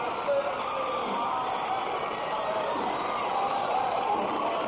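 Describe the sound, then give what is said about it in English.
Basketball fans at a Ricks College versus Dixie game cheer in a loud, sustained roar after a made jump shot and a foul, a dense wall of crowd noise that holds steady throughout with no break or single voice standing out. “You can hear the fan.”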